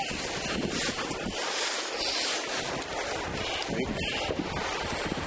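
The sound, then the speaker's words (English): Strong wind blows steadily and loudly across the microphone at the top, a continuous rushing roar with low buffeting rumbles and no speech. “Nice and windy on the top, so you can keep up.”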